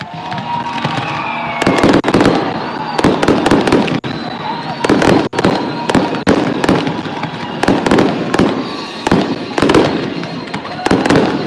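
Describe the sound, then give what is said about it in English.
Stadium fireworks go off at MGM Park in Biloxi after a Shuckers baseball win, in a rapid, irregular barrage of loud booms and crackling bursts, one after another over a steady outdoor rumble. “We'll take a break as the fireworks get going here at MGM Park.”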